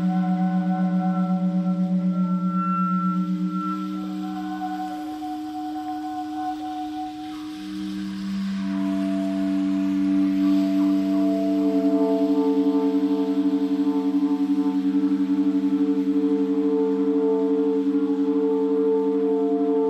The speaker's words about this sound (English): These players aren't the first to notice that clarinets with their thin, precise overtones can mimic abstract electronic music. The trio exploit the resonance of the room to really make things hum.